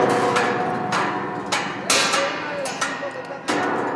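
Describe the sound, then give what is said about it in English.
Noise from one of the main construction sites of the new Bogota metro, an elevated train line, in Bogota, Colombia: sharp, irregular metallic clangs and bangs, several hammer-like impacts over a steady rumbling din, with faint voices in the background. “This is one of the main construction sites for the new metro.”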